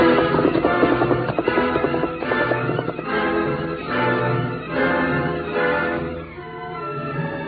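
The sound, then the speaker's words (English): Steady galloping hoofbeats of a horse ridden quickly toward town drum along beneath a loud, dramatic music score, the rhythmic clatter continuing throughout without any talking. “He ran to his horse scout and, quickly mounting, headed for town to get help.”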